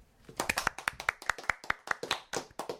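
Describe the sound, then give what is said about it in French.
Hands clapping in brisk, fairly steady succession, a dozen or so sharp claps, like brief applause from a small group, with no talking over it. “Un grand applaudissement”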